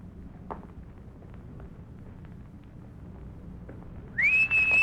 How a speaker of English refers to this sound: When I'm close enough, you whistle loud enough to make the feller turn over this way.